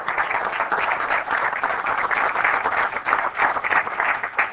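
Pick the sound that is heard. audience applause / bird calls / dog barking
audience applause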